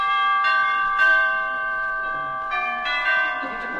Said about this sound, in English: Gee, I always have trouble getting up enough courage to ring the doorbell.